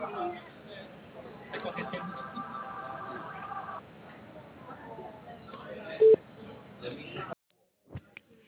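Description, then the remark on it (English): A single short, sharp answering machine beep cuts in loudly after several seconds of muffled talk and hiss on a telephone line, ending a recorded greeting that asks callers to leave a message or prayer request, followed by a brief silence. “At the sound of the beep, leave your message, and if you're calling with a prayer request, you will receive a confirmation letter and relevant healing and blessing scriptures.”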